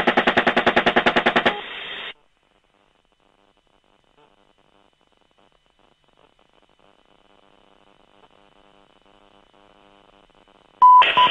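A rapid, evenly spaced burst of heavy machine gun fire from a helicopter, aimed at a van, rattles loudly for under two seconds, then gives way to near silence, with a brief loud bleep-like burst at the very end.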